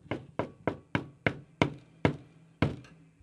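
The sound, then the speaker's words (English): A next-door neighbor knocks eight firm, fairly loud times on a door: a quick run of five evenly spaced raps, then three slightly slower ones after a brief gap, each with a hollow, woody thud. “And one day, the neighbor comes, knocks on the door.”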